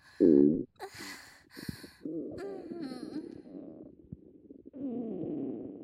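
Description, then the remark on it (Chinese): Wet, bubbling stomach rumbles and intestinal gurgles, fairly loud, coming in uneven bursts with short pauses and a few sharper squelches, with no talking. “肠子里发出的声音就像放屁一样呢。”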